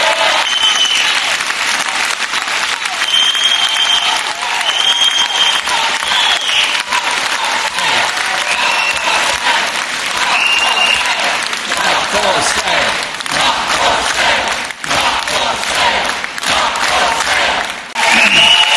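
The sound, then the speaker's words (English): A large audience applauds Jeremy Corbyn loudly and steadily for nearly twenty seconds after his speech line that the National Health Service is not for sale, with scattered whistles and cheers rising over the dense, continuous clapping. “Jeremy Corbyn getting a big round of applause there for that”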